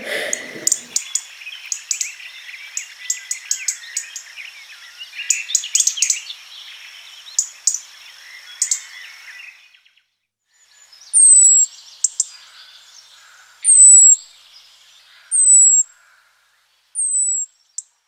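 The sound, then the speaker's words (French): A lone bird sings a rapid, twittering run of high notes, then after a short pause delivers four loud, clear, downward-cascading whistles at steady intervals, with no voices present. “Un bruit de cascade, on m'a dit.”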